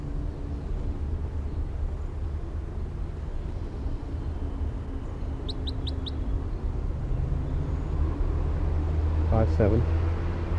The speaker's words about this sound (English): Recording to the wild bird with filter 3 on. Very weak. It's kind of windy right here now.